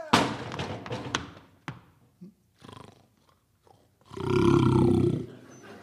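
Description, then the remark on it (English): Loud roars and growls from hungry bears, a burst at the start, scattered grunts and snuffles, then a long rumbling roar near the end, with no speech. “She was last seen falling into the midst of a bunch of hungry grizzly bears.”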